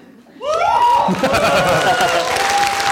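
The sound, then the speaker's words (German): A crowd bursts into loud, sustained applause after a brief quiet moment. Dense clapping continues steadily, with cheers and a few rising whistles carried over the top. “Wenn man dafür schon Applaus kriegt, das natürlich.”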